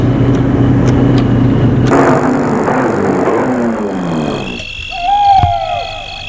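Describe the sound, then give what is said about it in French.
A car engine roars loudly, then recedes and fades over a few seconds as the vehicle speeds out of Paris at night, leaving a quieter night backdrop with a brief tonal call. “La voiture file hors de Paris.”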